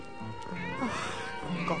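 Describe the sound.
A person's voice imitates a cat's meow, producing a couple of short, rising and falling mewing calls over a steady background hum.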